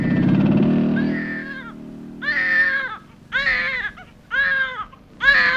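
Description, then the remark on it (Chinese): An infant left on a bench in a small street-side garden late at night cries in a series of about five strained, wavering wails with short gaps between them, loud, over a low rumbling background that fades after the first seconds. “这么晚了，谁家的婴儿还丢在这街心花园的长椅上？”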